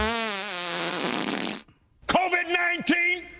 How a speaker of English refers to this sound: He can fart the virus away.